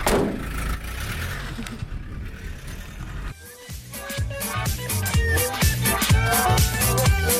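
A truck engine rumbles steadily for a few seconds, its noise swelling as if pulling away, before it cuts off and a stretch of rhythmic, tonal music takes over.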